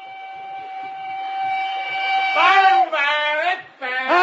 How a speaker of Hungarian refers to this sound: Itt a vonat!